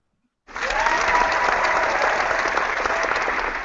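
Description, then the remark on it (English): A burst of applause starts suddenly and holds steady, many hands clapping in a dense, loud wash with no voices on top. “I guess that round of applause could be for all of you at Wyoming Nation as well.”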